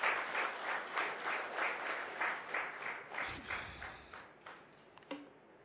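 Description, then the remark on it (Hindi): An audience applauds in thanks, dense overlapping claps in a continuous wash that gradually thins toward the end, with one sharp louder clap near the close. “बहुत बहुत जोरदार तालियों के साथ थैंक्स।”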